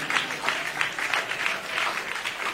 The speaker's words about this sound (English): Give a big clap offering to Jesus.